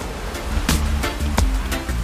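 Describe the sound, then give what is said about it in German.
Steady roar of sea surf with several brief, sharper crashes of water rising out of the wash, like waves breaking on a shore. No voices. “Meeresrauschen, Sonnenstrahlen im Gesicht und Erholung pur.”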